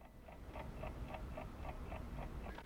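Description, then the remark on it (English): An alarm clock, pulled from among the covers on a bed in a dark room at night, ticks steadily and quietly, its small regular clicks coming several times a second over a low background hum, with no voices. “She pulls an alarm clock out from among the covers and stares at the hands.”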